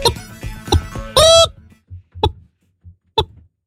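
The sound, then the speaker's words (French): A man's voice imitates a classic hen: rapid throaty clucks build to a loud, shrill squawk, then a few sparse, short clucks with low grunting pulses between them. “Est-ce qu'on peut avoir un petit extrait d'une petite poule classique?”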